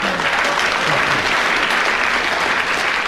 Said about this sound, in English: I don't have to put it to the audience. They've already decided with their applause. They've decided they're on Derek Nimmo's side on this.